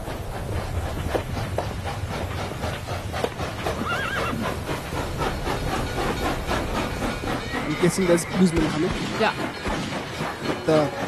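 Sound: train passing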